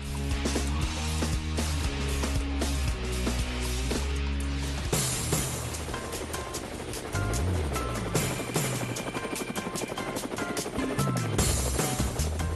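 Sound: helicopter rotor blades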